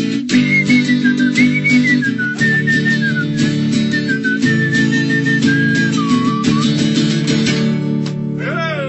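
A person whistles a lilting melody up close, the clear bright tune gliding and dipping steadily over a full, loud instrumental accompaniment throughout.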